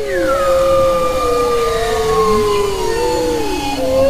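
Bowhead whale song: several overlapping, sustained tonal calls gliding slowly up and down in pitch, some wavering and howl-like, layered over a steady low hiss with no voices.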